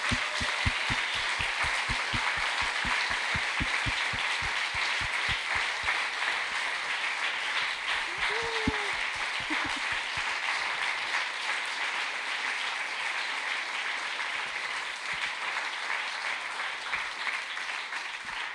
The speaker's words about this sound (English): So let's just give one more great big round of applause and appreciation.